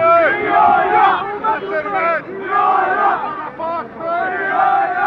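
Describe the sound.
A large crowd in Jerusalem, Israel chants anti-Arab slogans loudly in unison, voices rising and falling in repeated rhythmic phrases with short pauses between bursts, sustained and energetic throughout.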